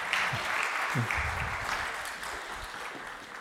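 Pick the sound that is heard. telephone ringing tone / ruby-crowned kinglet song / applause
applause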